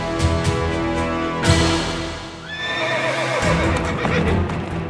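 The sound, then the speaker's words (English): A horse with a rider whinnies loudly during a joust, its shrill neigh rising and wavering, while heavy hoofbeats clatter and thud throughout, busy, with no voices. “There is Brian de Bois Guilbert on his horse”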